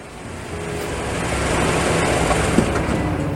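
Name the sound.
truck arriving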